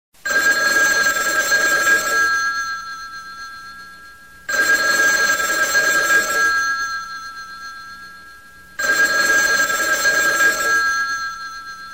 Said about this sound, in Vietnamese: Điện thoại reo khi trời còn chưa sáng, có lẽ là 2, 4 hay 6 tiếng gì đó.